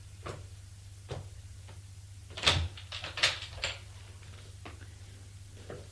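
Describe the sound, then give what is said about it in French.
Slow footsteps with the tapping of a walking cane draw closer to a door, a series of uneven knocks and scuffs over a low steady hum, growing a little louder midway. “On entend des bruits de pas, avec un bruit de canne qui s'approche de la porte.”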